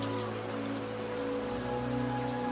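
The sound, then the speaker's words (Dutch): Steady rain patters on the roof of a small house in the mountains, a continuous soft hiss with a low, even hum beneath it. No voices, just the constant wash of falling water. “Je geniet ook van de rustgevende regen op het dak en de veilige, warme omgeving van dit huisje in de bergen.”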